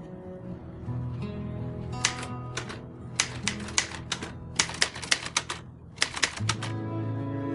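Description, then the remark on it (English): Rapid, uneven clacking of typewriter keys in bursts, each strike sharp, with a steady low hum and soft background music underneath. “the keys, for God's sake!”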